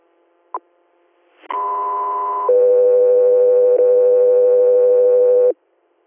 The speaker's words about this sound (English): Echo 3R, stand by for tones.